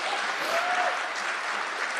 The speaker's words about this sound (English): Wait, clap. You have to clap for podcasting.